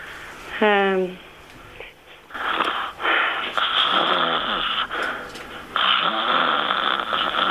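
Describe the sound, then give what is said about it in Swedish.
A person deliberately imitates snoring: three loud, raspy, rattling snores in a row, following a brief vocal sound at the start. “Och så gör du tre snarkningar på rad.”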